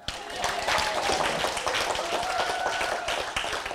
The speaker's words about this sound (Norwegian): Jeg synes vi skal gi en applaus.